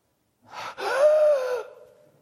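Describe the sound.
A voice acts out a desperate gasp for breath: one long, strained, rasping inhale with a wheezy edge, rising then trailing off, loud, with no talking.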